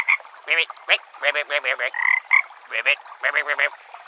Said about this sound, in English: Lady Penelope says she's sorry if her ribbits are a little awkward today.